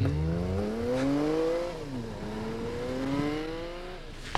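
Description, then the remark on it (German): A woman gets back into her car; its engine revs up and pulls away, pitch climbing, dropping briefly at a gear change, then climbing again. The engine is steady, with no voices. The car is registered in California. “Jetzt steigt sie wieder in ihr Auto.”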